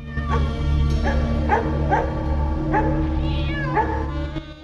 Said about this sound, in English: The dog sniffs about at the side of the alley and barks up at the cat.